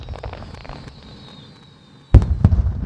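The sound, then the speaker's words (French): A thin whistling streak of fireworks lasts about two seconds, then two loud booms go off in quick succession, followed by a crackling rumble. “J'avais personne à qui partager cette peur, parce que avec mes amis du Liban, quand on entend des feux d'artifice, quand on entend des choses un peu assez fortes, on se comprend toutes.”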